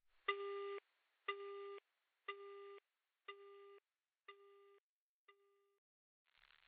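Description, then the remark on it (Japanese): A telephone disconnect tone after hanging up: six evenly spaced electronic beeps, each about half a second, gradually fading, followed by a brief hiss of static at the end. “ごめんね、そういうことだから。電話切るね、バイバイ。”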